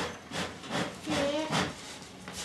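A bellows pumps air in a steady rhythm, about five breathy whooshes in a couple of seconds, with a faint creaky tone partway through.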